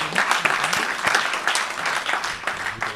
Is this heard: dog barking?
no